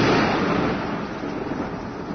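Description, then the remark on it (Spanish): A thunderstorm with a steady, dense roar of heavy rain lashing window panes and gusting wind, loud, with a deep rumbling undertone throughout and no voices. “La lluvia caía en turbiones, azotando los vidrios de las ventanas.”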